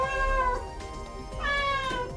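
A cat meows twice, two long drawn-out, rising and falling cries, with no talking.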